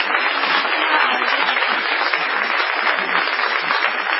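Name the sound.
audience ovation applause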